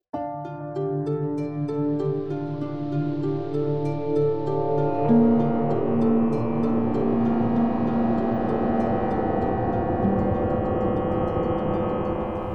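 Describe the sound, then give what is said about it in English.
A sci-fi tractor beam effect: a steady, loud electronic hum thick with layered tones, shifting midway into a rougher, rushing whir that holds for several seconds. No one speaks. “Ah, I haven't heard that sound in a while. A tractor beam.”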